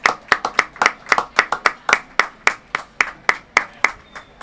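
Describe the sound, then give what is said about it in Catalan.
Audience applause following a sung performance: sharp, distinct hand claps in a steady, fairly quick rhythm, around twenty claps over a few seconds, crisp and moderately loud with no voices over them. “Fuera aplaudiment per Luca.”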